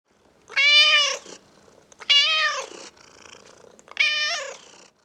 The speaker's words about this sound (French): I can hear a cat. J'entends un chat.